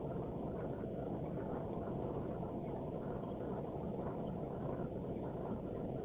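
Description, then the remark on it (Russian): Heavy rain, pounding all day and now into its 12th hour, drums steadily on a car with its windows closed, a dense, muffled, low roar with no letup and no voices. “Это вот такой дождь лупит целый день, уже 12-й час.”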